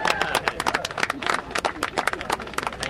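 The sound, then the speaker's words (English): A few dozen people cheer and clap as their mayor cuts a wide red ribbon for a new silver corn silo at the Public Works compound in Tacoma Park, Maryland, on a clear, cold day, with a steady patter of scattered, uneven handclaps and a few raised voices mixed through the applause. “It's not a new dump truck they're cheering.”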